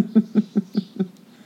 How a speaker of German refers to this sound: Ich glaube, jetzt hast du die Vögel gehört, ne?